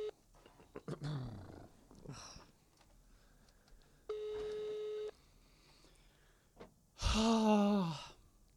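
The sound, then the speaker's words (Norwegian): A single steady electronic phone ringback tone sounds for about a second, clear, as a call to a woman is placed from a phone, with breathy sighs before it and a loud drawn-out vocal groan shortly after. “Ok, men da ringer jeg henne.”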